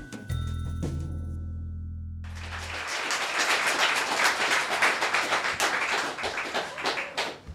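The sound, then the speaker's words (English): A low droning engine hum gives way to a dense, steady rattle and clatter, like a train rolling along the rails, with rapid irregular clacks throughout and no one speaking. “Trains make me really, really sleepy.”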